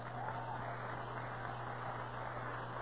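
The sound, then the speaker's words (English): An audience claps their hands unto the Lord in a steady, dense wash of applause that holds at an even level throughout, with no one speaking over it. “Do you have enough strength left to clap one more time?”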